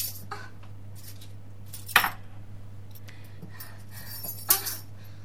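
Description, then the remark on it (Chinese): Keys drop onto a hard floor twice as someone opens a door, each landing a sharp metallic clatter a few seconds apart, over a steady low hum with no one speaking. “开门的时候，钥匙两次掉在了地上。”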